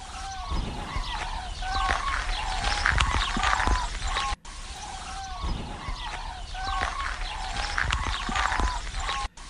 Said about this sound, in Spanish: Estas son aves. Sí. No sabría identificarlas, la verdad, ¿eh?